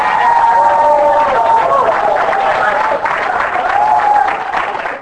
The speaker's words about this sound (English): Give me a big round of applause.